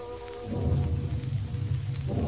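A low, rumbling roar of a gathering rainstorm on a warm, heavy night, with thunder rolling beneath a steady hiss of rain, fairly loud and continuous with no voices.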